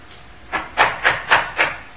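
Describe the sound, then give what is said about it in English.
Five knocks on a door in a steady, even rhythm, the first one softer and the rest firm and solid, with no voices. “No, that's not a Jehovah's Witness at the door.”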